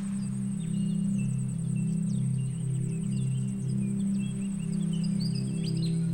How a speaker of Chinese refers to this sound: 听，还有阵阵的鸟叫声，仿佛在欢迎我们的到来。